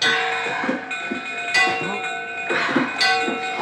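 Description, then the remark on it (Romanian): A bell is struck repeatedly at a slow, steady pace, about every second and a half, each clang ringing on with a sustained metallic hum. Faint low rumbling sits beneath it. “Bate și tu clopotul!”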